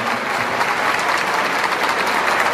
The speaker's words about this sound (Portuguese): Portanto, eu queria aqui, mais uma vez, pedir uma forte salva de palmas aos familiares, às famílias aqui presentes, do nosso formando.